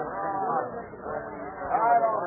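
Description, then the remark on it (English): A crowd of men gathered on a street corner in Wenatchee in 1933, talking all at once, their overlapping voices forming a steady, moderately loud babble with no single speaker standing out, swelling slightly toward the end. “We can't get anywhere if we all talk at once.”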